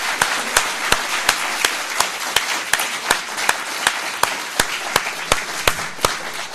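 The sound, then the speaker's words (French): An audience at a colloquium applauds steadily for several seconds after a conference talk, a dense wash of many hands with a few sharp claps ringing out in a quick, even rhythm above it. No one speaks. “Ah oui, vous avez mes applaudissements.”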